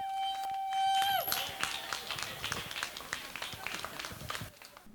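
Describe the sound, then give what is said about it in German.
A steady, high-pitched tone sounds for about a second and bends downward, then a burst of audience applause for the as-yet unnamed helpers follows: dense, crackling clapping that holds for several seconds before cutting off abruptly. “Also nochmal einen großen Applaus für die bisher namenlosen Helfer.”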